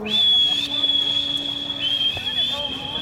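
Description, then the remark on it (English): A person whistles one long, loud, high-pitched note to call a dog, held steady for about three seconds with a slight dip in pitch partway through, over low background noise. “I'm a good whistler. I learned to whistle once I got a dog.”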